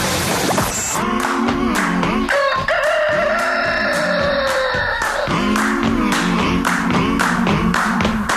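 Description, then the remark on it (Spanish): A loud rooster crows in a long, drawn-out cock-a-doodle-doo, rising and then holding steady, over a rhythmic stream of sharp tapping beats that run throughout. “¡Gallo por Radioactiva!”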